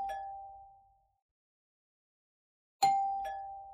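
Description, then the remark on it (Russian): A doorbell at a neighbour's flat one floor below rings with a bright mid-pitched chime that fades away, then after a pause of nearly two seconds it sounds again as two quick overlapping tones. No voices. “Как-то вечером, возвращаясь с прогулки, Иван Иванович позвонил к соседке Пчелкиной, жившей этажом ниже.”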